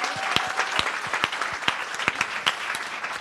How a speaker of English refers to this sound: Lastly, let's give another round of applause to our beautiful panel. You're amazing.